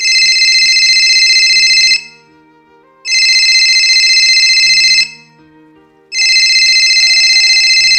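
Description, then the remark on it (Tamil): A mobile phone rings with an incoming call placed so that it could be traced: three loud, shrill electronic bursts of about two seconds each, separated by brief pauses, with a faint low murmur of background sound underneath. “Okay சரி சரி இப்போ கால் பண்ணுங்க பாப்போம் இருக்கா.”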